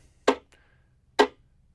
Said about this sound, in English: So the chop is done at the frog, and it's a percussive sound that is very short and choppy in nature.